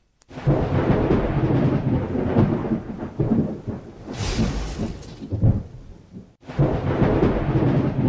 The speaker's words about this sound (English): Severe thunderstorms and heavy rain today brought much-needed relief to Delhi and the National Capital Region, including Noida, from the persistent heat wave.